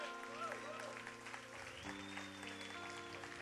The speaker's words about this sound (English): And let's have a big round of applause for Kevin Connor for emceeing.